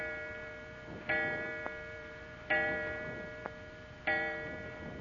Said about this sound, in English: The clock, it struck four times.